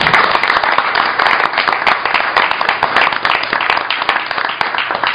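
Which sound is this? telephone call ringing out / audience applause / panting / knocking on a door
audience applause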